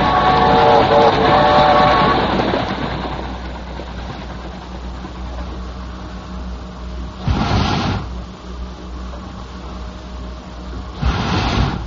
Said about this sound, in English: That's a sound most of us have never heard before. But to a good many railroad men, it's familiar. For that rhythmical pumping is the sound of an iron lung, working unceasingly inside a specially prepared railroad car as it carries a victim of polio